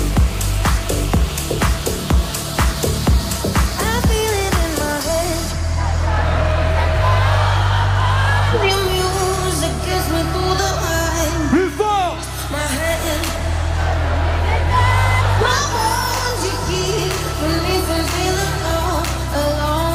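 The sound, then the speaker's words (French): A large crowd at a Fun Radio party on an island sings and shouts together over pounding dance music with heavy bass, loud and continuous for the whole stretch, with scattered whoops rising above the mass of voices. “Je vous entends chanter. Je vous entends crier.”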